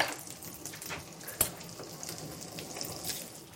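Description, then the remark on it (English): A whisk works oil and cooked egg yolk together in a bowl to emulsify them, a steady, faint wet swishing with soft scraping and one sharper clink partway through, no voices. “And you just whisk it together.”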